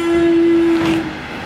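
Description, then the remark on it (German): A passing train gives a loud, steady horn blast lasting about a second over a broad rumbling wash, then the tone cuts off while the train noise carries on, at a former railway station site that is now a nature reserve. “Oh, jetzt kommt ein Zug, jetzt gehe ich hier schnell rein.”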